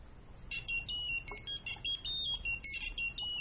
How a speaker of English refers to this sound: Dennis crouches down and removes the phone from Walter's pocket. He stands up again and answers the call.